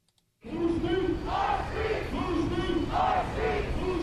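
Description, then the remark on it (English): A crowd of about 50 protesters chants loudly in unison outdoors in front of the UNM bookstore on a Thursday evening, the second night of protests, with rhythmic rising and falling shouts repeating steadily after a brief silent start. “On Thursday evening, the second night of protests, about 50 people gathered in front of the UNM bookstore.”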